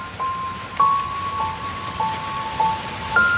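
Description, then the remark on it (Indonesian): A steady hiss of light rain falls past midnight on a quiet, dimly lit road, soft and even, with a few brief drops or ticks standing out and a faint high tone drifting in the background. “Penerangan seadanya, ditambah hujan rintik-rintik yang cukup besar.”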